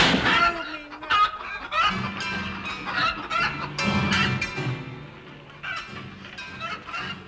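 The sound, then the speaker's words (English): A huge piebald chicken, harnessed to a piano, clucks loudly in a busy, continuous run of squawky calls lasting several seconds, with no talking over it. “In a trice, they harnessed my piano to a huge piebald chicken and drove it away.”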